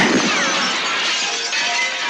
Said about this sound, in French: il prend le flingue, il essaye de se tirer sur la tempe, le flingue, il n'y a plus de balle, il jette le flingue, mais il y avait encore une balle qui tape dans une vitre hors champ